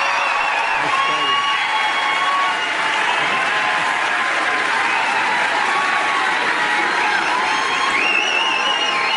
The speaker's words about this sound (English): Round of applause.